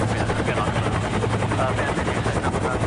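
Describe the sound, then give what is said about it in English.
A helicopter's rotor thumps steadily and loudly over a deep engine drone, its rapid chopping rhythm filling the whole stretch without pause, with a rope hanging out of it as a crowd watches from below. “Okay, put camera into position in the helicopter.”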